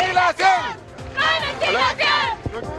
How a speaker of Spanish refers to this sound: Es por ello que cada cierto tiempo, cuando el semáforo está en rojo, justamente para no impedir el tránsito de vehículos, se paran en mitad de la calle y comienzan a realizar sus cánticos. Escuchamos.